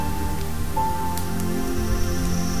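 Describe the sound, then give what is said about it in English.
Heavy storm rain pours steadily outside, a dense, unbroken hiss and patter with a deep rumbling undertone and occasional sharper drips, with no voices. “The fire's crackling now, and the storm outside is getting heavy.”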